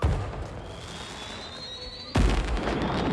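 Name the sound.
fireworks exploding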